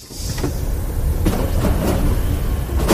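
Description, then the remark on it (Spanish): A loud, steady low rumble and mechanical drone from the traction of a moving Alvia train crossing the Pajares variant, heard from inside the passenger carriage on the journey from Chamartín to Asturias, with intermittent clunks and brief hissing bursts; no voices. “Un ruido que al parecer se debe a la tracción de los trenes que los pasajeros que venían ayer por la tarde desde Chamartín tuvieron que soportar hasta su llegada a Asturias durante todo el trayecto.”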